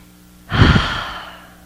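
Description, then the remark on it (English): A single deep, audible breath, drawn in and released in one long airy swell that fades out slowly, taken during a moment of silent prayer. It's fairly loud, with no one speaking. “Take a breath.”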